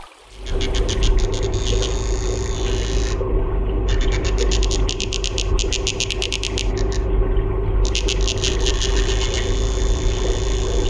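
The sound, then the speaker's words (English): Rapid, pulsating drumming of Danionella cerebrum, one of the world's smallest fish, averaging 12 millimeters long and found in streams across Myanmar: bursts of quick, evenly spaced clicks repeating in trains over a steady low rumble, with no voices. “That pulsating drumming is courtesy of one of the world's smallest fish, the Danyana cerebrum.”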